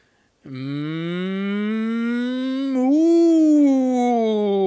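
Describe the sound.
A person gives one long, loud, drawn-out moo like a cow, the low droning tone lifting slightly in pitch partway through and holding steady for about four seconds, with no other sounds.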